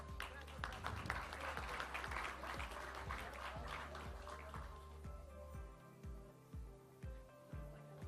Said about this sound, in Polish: Dziękujemy i wielkie brawa.